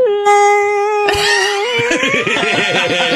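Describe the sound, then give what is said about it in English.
A voice imitates whale calls: a long, steady moaning tone, then a loud burst of warbling, wavering cries that glide in pitch, sustained for about three seconds. “Like, yeah, whale noises.”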